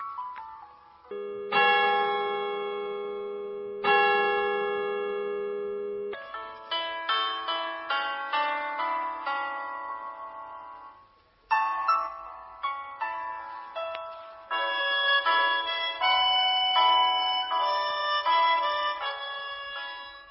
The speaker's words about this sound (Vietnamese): Trong giấc ngủ chập chờn, chị nghe thấy tiếng chuông nhà thờ dẫn lại từ một làng xa xăm, tiếng chuông gợi lại ngổn ngang những ký ức trong chị về một chốn khác, một thời gian khác.